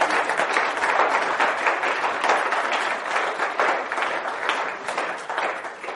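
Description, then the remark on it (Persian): Sustained audience applause for a blind person who wrote 50 books, a dense steady wash of many hands clapping at once, holding at an even, fairly loud level for the whole stretch with no voices standing out. “50 تا تشویق نداره؟ زنده باد.”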